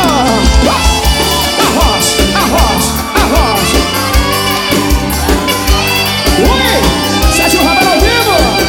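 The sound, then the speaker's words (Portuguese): A concert crowd shouts and cheers in response to the singer calling on those who are single to shout, over loud, steady live music with a pulsing bass beat, the massed voices rising in bursts for several seconds. “Quem tá solteiro, quem tá solteiro, dá um grito!”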